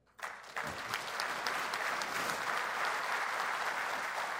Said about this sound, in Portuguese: Portanto, o setor e o Blairo merecem o aplauso.